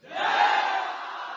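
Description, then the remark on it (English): Many voices of a monkey army roar together in a loud, sustained battle-cry chant after Ravana's ten heads fall, swelling quickly and holding steady like an army shouting in unison. “And the monkeys are chanting.”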